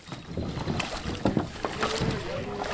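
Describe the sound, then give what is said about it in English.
About 70 paddlers clamber out of kayaks and wade through water and rocks at a boat ramp on the Delaware River at Washington Crossing Historic Park. Water sloshes and splashes, hulls knock and bump, with wind noise and faint voices. “About 70 paddlers fumbled out of their kayaks and waded through the water and rocks at a boat ramp at Washington Crossing Historic Park as part of the week-long paddling event.”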